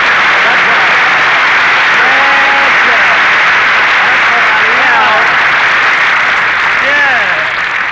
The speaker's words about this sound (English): Okay, folks, the show may be flopping, but now … is here to start things popping, so shower me with that sun-kissed applause.